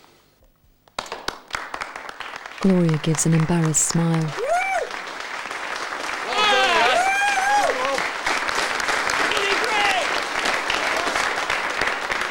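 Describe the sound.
A man begins to clap; a few scattered claps quickly swell into steady, loud applause from many hands that continues to the end, with a voice speaking over it.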